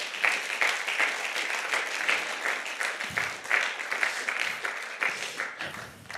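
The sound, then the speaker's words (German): Sustained audience applause for a married couple about to be interviewed on the topic of sex, a dense rustle of many hands clapping steadily at a fairly even loudness for several seconds, with no one speaking over it. “Und danke vielmals, dass ihr euch dem Thema stellt, geben wir euch ihnen doch einen grossen Applaus.”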